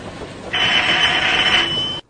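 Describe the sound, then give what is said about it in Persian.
A house doorbell rings once as a girl comes to the front door: a single long, steady electric buzz, bright and shrill, lasting about a second and a half before cutting off abruptly over a faint background hiss. “زنگ در به صدا در میاد.”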